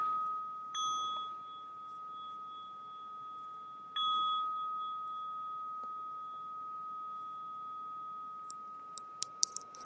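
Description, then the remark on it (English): A meditation bell rings three times to start a meditation sitting, each strike blooming into a long, steady, pure ringing tone that overlaps the last before slowly fading. A few sharp little clicks follow at the end. “In my tradition, ring the bell three times to start and one to end.”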